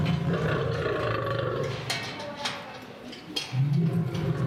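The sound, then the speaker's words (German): A hungry lion roars and growls loudly at feeding time as it is given raw beef, deep rumbling bursts with short breaks, set against a steady background din. “Ich glaube, die war es. Die hat mich eben schon die ganze Zeit so komisch angeguckt. Die rastet ja völlig aus.”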